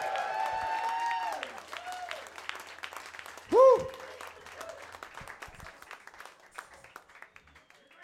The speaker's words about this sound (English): New Jersey, give yourselves a large round of applause.